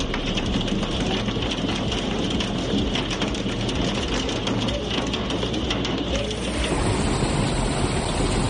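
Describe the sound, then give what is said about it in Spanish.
Heavy rain mixed with hail pours down in the city of Alicante during a brief afternoon downpour, a steady, dense, loud roar throughout, with a low rumbling undertone and no voices. “Lluvia y granizo en Alicante.”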